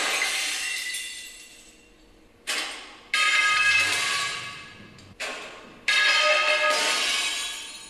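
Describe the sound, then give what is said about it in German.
Fluorescent tubes fall one by one from the ceiling of an empty industrial room and crash and shatter on the floor, about five loud bursts of breaking glass at irregular intervals, each trailing off into tinkling fragments, with no voices. “Im Video eines leeren Industrieraums fallen dann nach und nach die Neonröhren von der Decke und zerschellen am Boden.”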